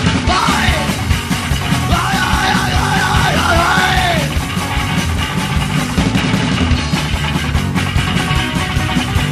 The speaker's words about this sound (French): Là, c'est le tout dernier, on peut vous entendre gueuler un petit peu.